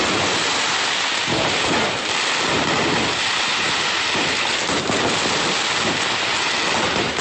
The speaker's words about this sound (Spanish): Así sonó la explosión de la pólvora evaluada en más de 20 millones de pesos.